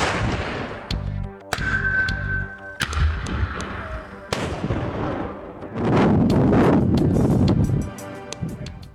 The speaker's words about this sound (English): Historically, the department has used artillery from the U.S. military for controlled avalanches. In a video published by the department in 2015, crews fire artillery near Bird Creek as part of avalanche mitigation work.